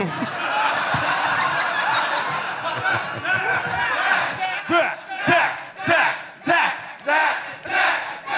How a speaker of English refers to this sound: This crowd's fire. It's exciting and worrisome how quick they are to chant, you know? It's, makes me feel like they had a lot of practice, you know, but...